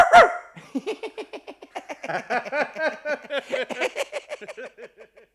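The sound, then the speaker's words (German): A voice imitates a dog barking, rattling off a long, quick string of high yappy barks in steady rhythm, fairly loud with no other talk. “Oh, entschuldige. Ich wollte ja nicht mehr bellen.”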